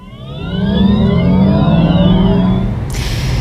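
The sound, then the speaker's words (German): A Volkswagen electric car's synthetic warning sound, composed by a music producer, a loud, steady futuristic hum with layered tones that slowly rise and shift in pitch, like a vehicle gently accelerating, heard alone without any talking. “Das ist nicht nur einfach der Sound eines E-Autos aus dem Hause VW, das ist eine Komposition von”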